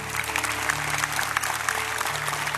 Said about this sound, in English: Let's give our first-time guests a big hand clap.